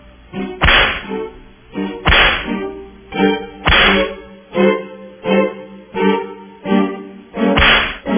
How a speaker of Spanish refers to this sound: Bueno, claro, le vamos a dar a Mónica Ayala, directora del seguro, los latigazos, ¿verdad?